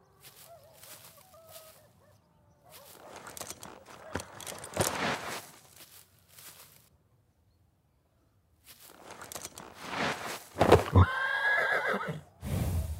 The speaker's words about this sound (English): Oh, you've ridden a horse before.